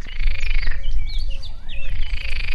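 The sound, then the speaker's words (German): A chorus of yellow-bellied toads and water frogs calling in steady, overlapping pulses, with a blackcap's quick, warbling whistles weaving over the top, on a bright afternoon in the upper Zipfelbach valley nature reserve near Winnenden. Fairly loud and continuous throughout, with no voices. “Gelbbauchunke, Wasserfrösche und Mönchsgrasmücke geben am hellen Nachmittag ein Konzert.”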